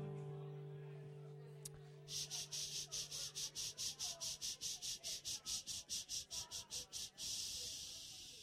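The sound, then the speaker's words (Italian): Cicadas sing in a loud, rasping buzz that pulses rapidly in a steady rhythm, about twenty beats, then swells into a continuous drone, with a low hum underneath at the start. “Le cicale, sentite, e questo, con questo suono delle cicale che cantano,”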